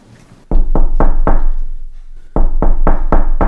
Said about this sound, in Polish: Następnie zmierza ku szafie, ale wtedy słyszy pukanie do drzwi.